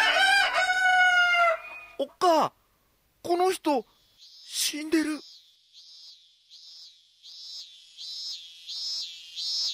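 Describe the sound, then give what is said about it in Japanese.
A cicada chirrs in a steady series of rising, buzzing pulses, about one every second, fairly loud, following a few brief, sharp calls at the start. “これセミで終わるわけ。”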